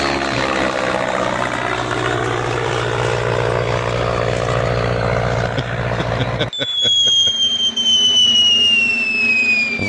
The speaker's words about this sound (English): That was like a prop jet or something.